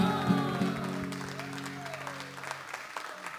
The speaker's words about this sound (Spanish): Es hondo y espiritual, y si el alma se termina, aunque esto ya se ilumina, le pido al espectador un aplauso para el mejor rapero de la Argentina.